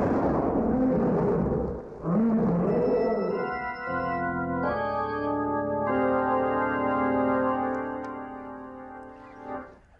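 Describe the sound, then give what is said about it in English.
Three lions roar during an attack: two rough, growling roars, loud, sweep up and down in pitch, then give way to a sustained, swelling chord of brass-like tones that holds to the end. “There are the lions. Three of them.”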